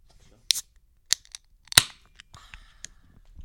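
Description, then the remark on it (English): A can or bottle of beer, the Sodo Brown from Two Beers, being opened: three sharp metallic clicks and snaps, the third loudest, followed by a soft fizzing hiss that fades. No one speaks. “So I guess it's time to hop right into the next one.”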